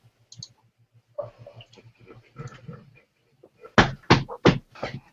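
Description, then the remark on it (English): A steady run of small clicks ticks along throughout, joined near the end by a few sharper, louder clicks in quick succession, like a computer mouse clicking out to other items on an on-screen sideboard and back. Faint voice murmurs sit underneath. “You try clicking out like into one of the other items on that sideboard, and then clicking back into HAH.”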